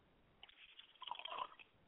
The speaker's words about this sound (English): I pour libations to the east, and I say Ashe. And finally, I pour libation to the west, and I say Ashe.